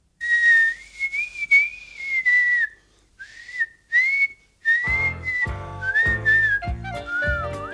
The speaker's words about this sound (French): Sur le chemin du retour, … tentaient de siffler comme les grands.